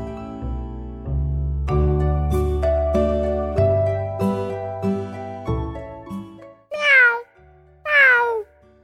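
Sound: cat meowing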